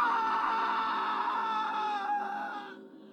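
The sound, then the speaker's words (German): A shrill, horrifying scream from a bathroom rings out alone for about three seconds, piercing and high-pitched, holding steady before trailing off at the end. “Sie wollten gerade wieder das Licht von außen anschalten, da drang ein schriller, grausamer Schrei aus dem Badezimmer.”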